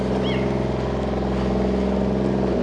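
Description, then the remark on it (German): The motor of a still-active crane hums steadily with a deep, droning tone and layered buzzing harmonics, loud and unbroken throughout, with no voices over it. “Jetzt brummt es so, weil der Kran ist noch aktiv.”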